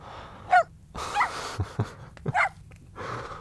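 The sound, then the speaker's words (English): A female puppy lets out several short, high-pitched yips and barks in quick bursts, with brief pauses between them and faint room noise underneath. “Puppy. Hey, shh. Quiet. Sit.”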